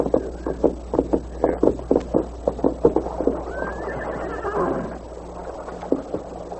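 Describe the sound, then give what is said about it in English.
A white horse, led on foot to a spring in the hills of southwestern Texas: its hooves clop in a steady rhythm, then a drawn-out neigh rises and wavers over the footfalls before a single final clop near the end. “A heavy-set, scar-faced bank robber and murderer named Buck Banner dismounted and led his white horse to a nearby spring.”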